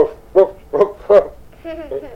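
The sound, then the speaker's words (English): Three sharp, evenly spaced barks from four sled dogs ring out, followed by a softer, drawn-out whine or yip as the barking trails off. “In that little box, there were four sled dogs and a sled.”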